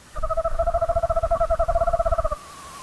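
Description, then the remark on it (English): A screech owl calls softly in the distance in response to pre-recorded owl calls played from a field loudspeaker, a steady, rapid trill on an even pitch lasting about two seconds before stopping abruptly, with a low rumbling background underneath. “The back and forth continued until another bird's call caused one of the screech owls to clam up and take flight.”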